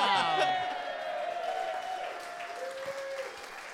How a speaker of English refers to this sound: The passengers applauded, much like that, but also the coach heard the announcement.